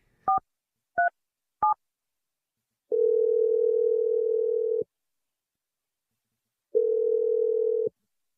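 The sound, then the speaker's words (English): Three quick keypad beeps, then the outgoing ring of a phone call placed by the radio show Brooke and Jeffrey in the Morning: two long, steady buzzing rings, each lasting about two seconds with a pause between them. No one speaks. “Once on one line will work. Okay, let's try it the first time.”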